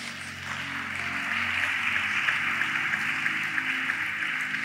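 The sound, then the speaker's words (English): An audience claps for Jesus steadily for several seconds, a dense, even wash of applause with no break, while low sustained musical tones hum underneath. “Clap for Jesus.”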